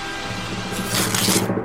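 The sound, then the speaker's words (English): An envelope is torn open on stage to announce an award winner: a scratchy, papery rasp that builds over about a second, louder toward the end, then cuts off abruptly. No one speaks. “just open that envelope that's next to the notes that you brought up on stage.”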